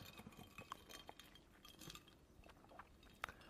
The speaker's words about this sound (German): Du möchtest anstoßen? Ja, ich möchte einmal kurz anstoßen. Prost. Prost.